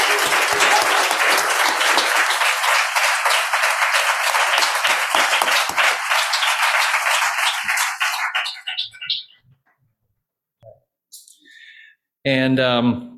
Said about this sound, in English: So what I really want is a real round of applause for yourselves and for this community for what you have accomplished in this building space.